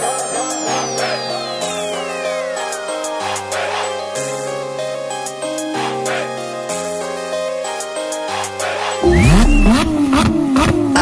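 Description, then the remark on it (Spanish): A car engine revs and accelerates over a steady, stepping musical backing, with a long falling whine early on and a loud, wavering roar of revving bursting in near the end. “Motores, ha llegado la hora de pisar el acelerador.”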